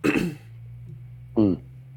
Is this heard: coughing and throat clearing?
yes